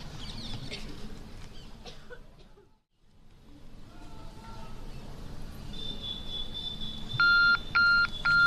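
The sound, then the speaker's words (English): After several seconds of quiet room noise, a timer starts beeping: three or four loud, bright electronic beeps in quick succession, clear. “Our timer is running.”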